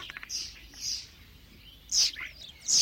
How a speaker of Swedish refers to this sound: Den är en riktig vårfågel som gärna bygger bo i holkar. Där det är kor och hästar blir det mycket gödsel och flugor. Det gillar stararna. Staren härmar ofta andra fåglar, så när staren sjunger kan du träna dig på många fågeläten.